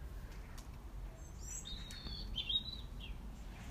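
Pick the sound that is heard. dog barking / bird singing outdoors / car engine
bird singing outdoors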